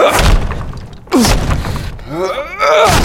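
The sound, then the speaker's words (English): Heavy axe blows thud into a wooden door at the top of the Dolican stairs as it is cut through, three loud strikes spaced about a second apart, with splintering cracks and a straining, groaning voice between the hits. “Even with the tool, cutting through the door was a difficult task.”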